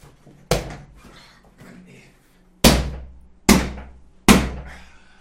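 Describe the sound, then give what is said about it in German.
Four loud thumps of a chair being struck by hand, the first one alone and the last three coming in quicker succession, each with a heavy low boom and brief rattle. “Ich schlag jetzt wieder meinen Stuhl.”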